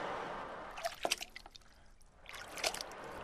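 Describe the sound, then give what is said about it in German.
Water splashing and dripping, with a few sharp splashes around the first second and again later as pirates' boats are lowered into the water, with trickling in between. No one speaks. “Schnell ließ die wilde Elf die Boote zu Wasser.”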